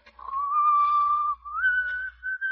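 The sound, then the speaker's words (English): Red Lantern whistles a few slow, sustained notes of the wedding march tune, clear, the pitch stepping up partway through with short breaths between phrases and no talking. “Why, Red Lantern, it's the wedding march.”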